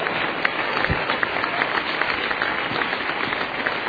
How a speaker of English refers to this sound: Clap your hands to the Lord now.